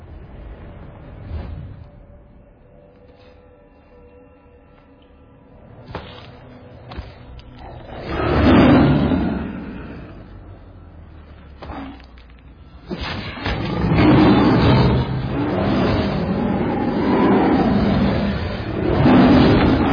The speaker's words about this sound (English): Please watch this video of a lion fight.